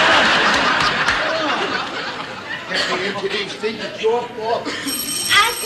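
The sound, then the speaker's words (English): A doorbell rings with bright, steady tones in the last second, after a stretch of chattering voices and laughter that continues under the ringing. “Gee, they love them bells.”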